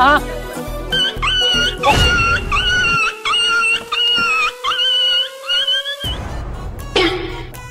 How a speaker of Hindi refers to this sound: अरे भाई साहब क्या हुआ? अरे भैया गाड़ी के नीचे कुत्ता आ गया। अरे भाई साहब वो कुत्ता नहीं है, मेरे फोन की रिंगटोन है।